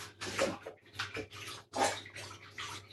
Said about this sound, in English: And now I'm going to wash my hands because I'm covered in raw chicken.